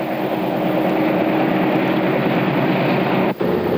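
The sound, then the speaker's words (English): A heavy 150-car freight train loaded with ore, 100 tons per car, rumbles steadily along the rails, a loud continuous roar with faint rhythmic clatter and a brief dip near the end, no voices present. “After preliminary crushing, it's loaded into 150-car freight trains.”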